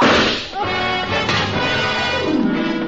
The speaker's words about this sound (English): The revolver barrel that crashed through the darkened windowpane behind the bar spoke twice.